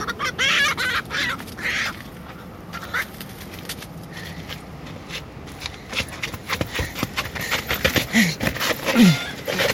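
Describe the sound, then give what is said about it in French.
Hens cluck and chatter, a busy scatter of short, choppy calls overlapping one another, with a few higher squawks rising near the end and no voices. “La poule?”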